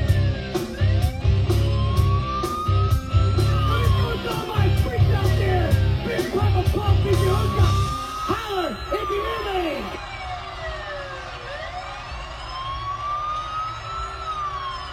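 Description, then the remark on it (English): An emergency vehicle siren wails in repeated rising and falling sweeps, loud, over heavy rumbling and sharp bursts for the first half, then continuing more cleanly on its own. “I like to think that there's got to be something in that Shoney's that he owns that if you order it, the fucking siren starts.”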